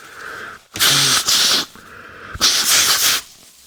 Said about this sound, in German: Kleinen Moment, ich muss noch mal kurz schneuzen.